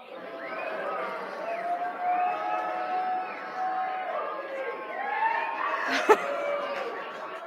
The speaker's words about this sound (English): we're going to celebrate the Lord as I pour this water in. And do it as loud as possible. Nobody is listening to you because they're shouting too. They're praise to God. And then when I'm done, when the water's empty, we'll stop.